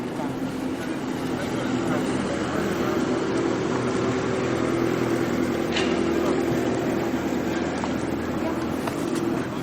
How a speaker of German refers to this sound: Ah, die Müllabfuhr. Typisches Geräusch. Die Müllabfuhr. Das ist immer noch die Müllabfuhr.